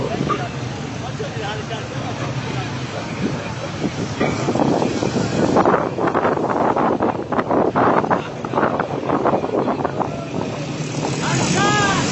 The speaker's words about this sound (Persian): من تعداد ماشین ها رو شمردم، 13 تا ماشین اسحاق جهانگیری رو در این سفر به استان فارس، به شیراز، دارن همراهی میکنن.